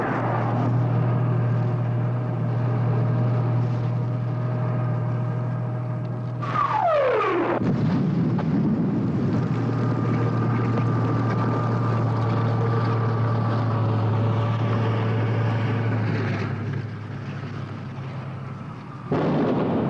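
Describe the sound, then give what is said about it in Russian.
Heavy tank engines rumble in a loud, steady low drone as tanks approach, and partway through one rolls past with a sweeping drop in pitch before the grinding roar settles again. “Ну что, танки испугались. Будем пропускать через себя.”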